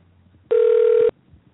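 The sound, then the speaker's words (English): A telephone line tone as a call is dialed out during a live radio show: one loud, steady, mid-pitched electronic beep lasting about half a second, with faint background hiss before and after and no talking. “It's dialing.”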